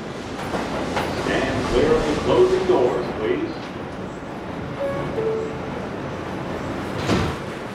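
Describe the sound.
A steady rumbling subway ambience as someone heads into the subway, with a moving train's hum and rattle, faint tonal squeals rising briefly, and indistinct voices murmuring in the background throughout.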